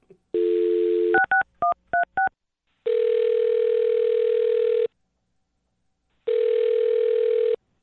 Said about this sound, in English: All right. I'm going to dial her phone number and you can talk to her, okay? All right. Here we go.